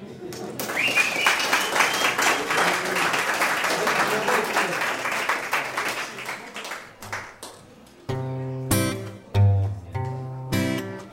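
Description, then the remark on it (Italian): An audience applauds at a performer's request during a guitar show, in a dense, steady wash of clapping for several seconds, fading out as a man starts speaking over it. “Qua vorrei l'applauso.”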